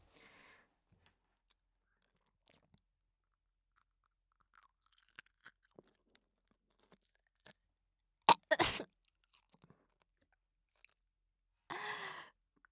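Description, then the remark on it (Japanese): Crunching of roasted crickets, Japanese-produced and foreign-produced, being chewed for ASMR: sparse crisp clicks, then a loud, sharp crunch burst partway through, ending with a short breathy exhale. No one speaks. “では国産、外国産コオロギ咀嚼音 ASMR です。”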